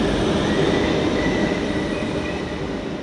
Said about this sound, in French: Ah, attendez, hein. Alors, j'attends que le RER passe parce que là... Merci.